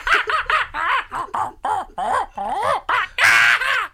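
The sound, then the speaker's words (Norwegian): A voice imitates chimpanzee calls: a rapid string of about a dozen loud, high-pitched hoots and shrieks, each sliding up and down in pitch, ending in a harsh screech. “Jeg er en tydelig ape.”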